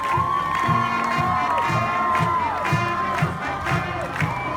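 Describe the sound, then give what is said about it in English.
A large spirited crowd, with six high school cheer squads and the Atwater High School Band, cheers and shouts continuously to welcome veterans home as they land back in California, high excited voices ringing out over a steady, regular thumping beat, loud and sustained throughout. “And when they landed back in California a couple days after they left, six high school cheer squads, the Atwater High School Band, and a spirited crowd welcomed them home.”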